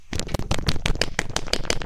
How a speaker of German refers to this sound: Oh, ich höre Applaus.